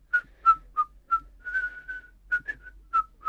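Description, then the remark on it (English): Soft whistling by an old man, a gentle run of short tonal notes and a few held ones, fairly quiet, with no one talking. “He whistled very softly.”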